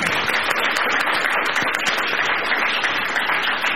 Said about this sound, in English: Again, a round of applause for our speakers.